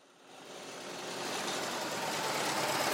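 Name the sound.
car engine idling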